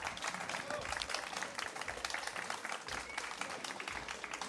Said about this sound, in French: que je vous demande d'applaudir, s'il vous plaît, pour l'accueillir comme il se doit.